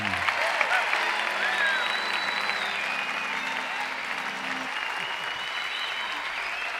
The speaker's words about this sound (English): Ladies and gentlemen, another big Western round of applause for